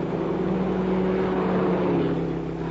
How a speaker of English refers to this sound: Both cars are proceeding at a speed in considerable excess of the legal limit. Approximately 3 miles north of the boundary, their progress is observed by two troopers occupying a highway patrol car.